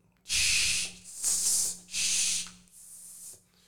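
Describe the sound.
A person imitates a snake with four long, breathy hisses in a row, loud, the last one a little softer, with short pauses between them.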